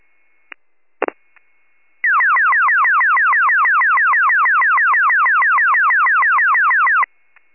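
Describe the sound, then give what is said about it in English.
On Warren County emergency radio, a few brief clicks, then a loud electronic evacuation alert tone sweeps rapidly downward over and over, about five sweeps a second, holding steady for roughly five seconds before cutting off: a delayed 19:30 Monday night test of the evacuation Mayday tones. “Warren County with your delayed 1930 Monday night test of the evac tones.”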